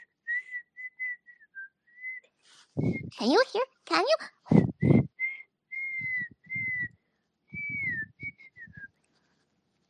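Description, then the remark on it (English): A person whistles a simple wavering tune, clear, in short steady notes that stop briefly while voices talk, then resume alongside soft muffled bumps. “How's my whistle?”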